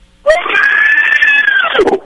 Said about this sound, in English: My neighbor just yelled, "Yeah!" No, that was your neighbor. He sounds like one of those things in Lord of the Rings.